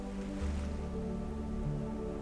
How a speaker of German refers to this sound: Und du gehst wieder diesen Strand entlang, hörst nochmal den Wellen beim Rauschen zu und lässt langsam die Bilder verblassen.